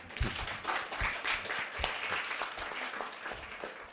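An audience applauds steadily for about four seconds, a dense, even wash of many hands clapping at moderate volume with no voices over it.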